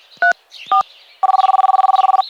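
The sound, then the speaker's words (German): A phone being dialed for an emergency call: two short dual-tone key beeps, then a fast, even run of about sixteen rapid electronic pulses at a steady mid pitch, fairly loud, with no voices. “Der Nachbar verständigte sofort den Notruf.”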